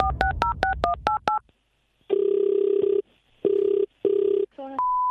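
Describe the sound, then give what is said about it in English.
A quick run of touch-tone dialing beeps, then the outgoing ringback tone buzzing in several steady bursts with short pauses, ending as the line connects with a click and a steady tone. “Who is Rory phone tapping today on East Coast Drive?”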